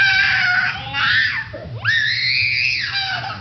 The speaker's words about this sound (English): When children are at the peak of anger and they're screaming and they're kicking, probably asking questions might prolong that period of anger.